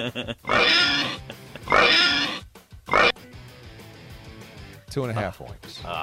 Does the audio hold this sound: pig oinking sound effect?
yes